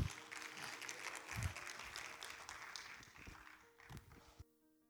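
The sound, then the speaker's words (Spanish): An audience at a worship service applauds together, a dense wash of many hands clapping for several seconds before it abruptly cuts off into quiet. “Claro que se den un fuerte aplauso, Señor.”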